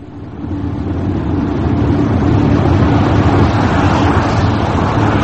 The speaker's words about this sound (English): We got into the car and drove off.